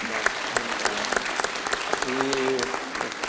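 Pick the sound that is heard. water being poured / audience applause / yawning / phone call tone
audience applause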